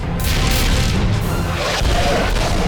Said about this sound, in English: The clones' cannons roar, but the shells are repelled and make no impact on the shield. The shells rain down on the shield, but they dissipate on touching it.